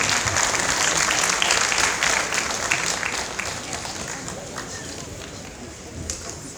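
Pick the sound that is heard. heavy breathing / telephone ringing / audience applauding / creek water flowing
audience applauding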